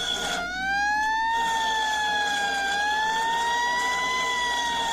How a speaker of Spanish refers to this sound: cada vez que escucho esa sirena tiemblo como gelatina.